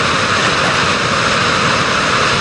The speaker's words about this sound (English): Some of us don't really know how loud the sound of water can be. Take a look at this video. How many of you have been to a waterfall before? The rest of you probably will not know how loud it gets.